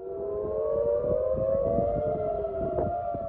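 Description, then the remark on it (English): Air raid sirens wail steadily across central Tel Aviv, Israel, after Hezbollah rockets were launched from Lebanon, several overlapping tones holding and slowly bending, echoing over a low rumble of urban background. “Sirens rang out across central Tel Aviv less than 2 hours after Republican Donald Trump gave a speech claiming victory in the U.S. elections.”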